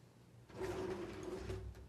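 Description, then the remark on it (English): A desk drawer slides open with a steady wooden scraping rumble lasting about a second and a half, moderately loud, after a brief quiet moment. “Each of you, if you look in that drawer, will you look in that drawer?”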